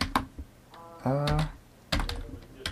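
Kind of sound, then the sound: computer keyboard key presses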